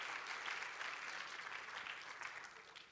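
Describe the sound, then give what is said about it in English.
An audience breaks into steady applause in response to the preacher's words that Jesus will save His people from their sins, dense overlapping claps sustained at an even loudness for a few seconds, with no talking over it. “You can clap. That's worth responding to.”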